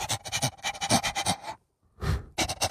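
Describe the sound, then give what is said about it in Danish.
A happy dog pants in quick, rhythmic, breathy bursts, pausing briefly for a single heavier breath before the fast panting resumes. No one speaks. “Det var bare en forpustet, en glad hund.”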